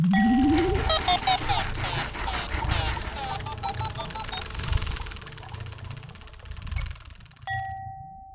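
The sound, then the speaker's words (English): A short, busy musical jingle opens with a rising whoosh, then closes with a single clear bell ring that sustains brightly to the end. “Guess what that sound means? Especially the bell.”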